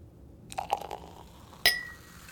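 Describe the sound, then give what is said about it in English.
Soft fizzing and small splashes of Veuve Clicquot champagne, then a single bright clink of champagne glasses touching in a toast at night, its high ring lingering and fading. Fairly quiet, with no talking. “At this time of night, a glass of champagne will do nicely.”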